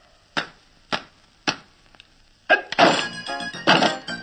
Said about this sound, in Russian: Открывайте ящик. Алле, оп.